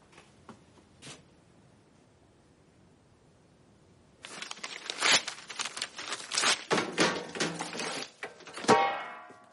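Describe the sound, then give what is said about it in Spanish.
After a few seconds of near quiet with a couple of faint clicks, a burst of loud ripping and crinkling begins as a paper letter and its envelope are torn repeatedly in quick, uneven strokes. “Rompe la carta y el sobre que la contenía y los tira a la basura.”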